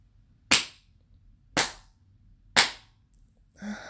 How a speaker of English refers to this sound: You start by spanking me slow. Slow and deliberate slaps.